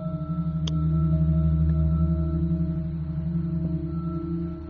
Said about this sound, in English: But unfortunately, the crew forgot to film them. So all that you get is the sound of static.